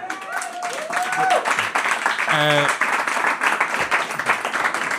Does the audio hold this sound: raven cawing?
no